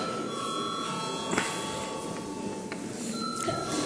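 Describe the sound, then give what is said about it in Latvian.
A parliament voting bell rings steadily for several seconds before a vote on the first reading of a sanctions bill, a sustained bright metallic tone with high overtones and a few faint clicks, and no one speaking. “Paldies, paldies, lūdzu zvanu.”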